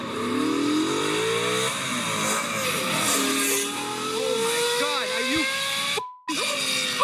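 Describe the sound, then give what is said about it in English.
A sports car engine revs loudly and continuously, its pitch climbing and dropping in repeated sweeps, with a brief abrupt cut near the end before the roar resumes. “And now, if this was a wine, I'm going to say, like, initially, we've got tones of E92 M3 or B7 RS4.”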